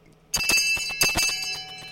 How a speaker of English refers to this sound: So right now, I've got this bell that I bought that you might have heard earlier. And I probably shouldn't have bought it because, well, with the amount of money I've been losing. But I'm gonna ring it. Let me just ring the bell.